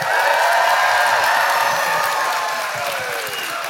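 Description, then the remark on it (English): A large live audience applauds loudly and steadily, dense clapping mixed with whoops and cheers that hold strong for several seconds before easing slightly, at a live show at the Texas Tribune Festival in Austin, Texas. “Even the applause is bigger in Texas.”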